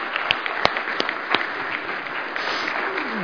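A crowd applauds a man coming up to give his first sermon at a morning service, with dense, steady clapping throughout, a few sharper individual claps standing out early on, sustained at a fairly loud level for the whole stretch.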